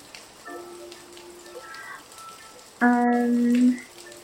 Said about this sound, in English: and suddenly there is a rain.